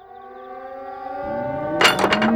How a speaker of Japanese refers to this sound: 空襲警報だ。